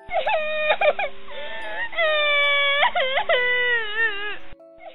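A child cries loudly in long, high-pitched wailing bursts, several drawn-out sobbing cries in a row, intense with brief breaks between them, as a little monkey in a children's story screams and then cries after entering a messy room.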